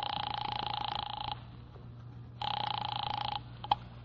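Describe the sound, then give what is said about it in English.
An office telephone at a document research laboratory on Vanderbilt is dialed and rings in two steady buzzing bursts, each about a second long with a pause between, over a low constant hum, followed by a faint click. “got such a shock that I grabbed the office phone and dialed Wolf at once”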